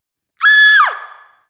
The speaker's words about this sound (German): Dies ist der markerschütternde Schrei.